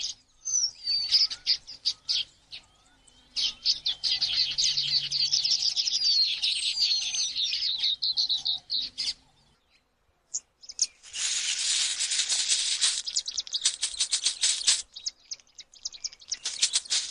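Red-billed quelea calling in a dense, continuous chattering chorus of many birds, with busy high-pitched twittering rising and falling, briefly pausing, then resuming even louder and fuller.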